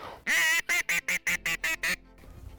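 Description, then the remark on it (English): Loud duck quacking as incoming ducks are called in: one long drawn-out quack followed by seven short, evenly spaced quacks in a quick rhythmic run, then faint background noise. “Oh my gosh, I think we see some ducks coming in. Let's call them in.”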